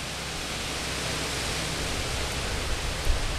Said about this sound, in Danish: Ordentligt vindpust her.